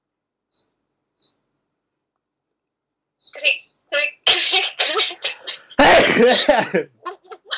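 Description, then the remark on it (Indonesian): Two faint clicks, then a run of breathy, sniffling noises builds to one loud sneeze, followed by a few short sharp sounds. “Kalian pernah bersin kan pastinya?”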